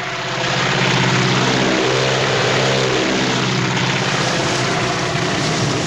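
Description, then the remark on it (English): A low-flying crop duster propeller plane roars loudly overhead above a cornfield, its droning engine pitch sweeping and bending as it passes, with no voices. “The stalks tremble around him as the plane passes overhead.”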